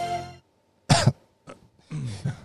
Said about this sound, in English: Turn your head and cough.